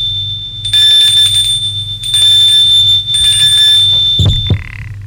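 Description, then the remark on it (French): A bright electric doorbell at the front door of a house rings in three long, sustained bursts, a steady high metallic tone with harmonics, followed by a couple of low knocking thuds at the end. “Sonne à la porte.”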